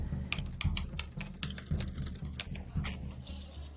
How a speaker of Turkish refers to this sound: İzci çocuk Morse alfabesiyle gelen mesajı dinledikten sonra daktiloya yazmaya başladı.